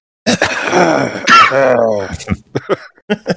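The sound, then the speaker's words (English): An awkward cough: a drawn-out, strained throaty sound followed by several short, choppy coughing bursts, loud, with no clear words spoken. “I like the uncomfortable cough as after, oh, you get to meet all the cool kids.”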